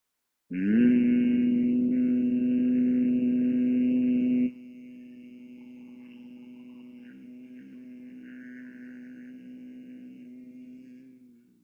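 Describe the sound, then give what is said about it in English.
A single long, low-pitched human hum on one steady note, made on the exhale during Bhramari breathing practice in Shanmukhi Mudra. It is loud for the first few seconds, then abruptly softer and held as a gentle drone for several more seconds. “Exhale, hum.”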